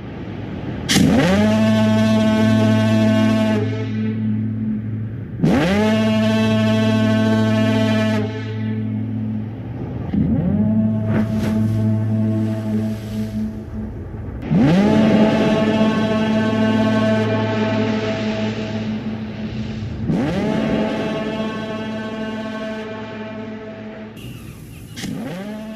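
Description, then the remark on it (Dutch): A foghorn from the film The Lighthouse sounds five long, deep, blaring blasts with a buzzy, harmonic-rich tone, repeating roughly every five seconds, loud and with no voices. “The Lighthouse, die misthoorn. Die misthoorn, John.”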